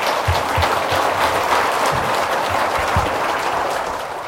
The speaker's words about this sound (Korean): 나오실 때 박수로 환영해 주시기 바랍니다.